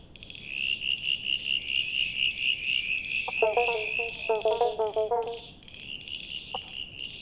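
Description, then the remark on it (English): A steady, shrill cicada drone pulses without pause, joined midway by a short run of croaking frog calls. The chorus is fairly loud, with no one talking. “"Cicadas are still with us," he noted in November 1954, taking up the chorus in the morning where the frogs leave off and continuing almost until the evening when the frogs start up again.”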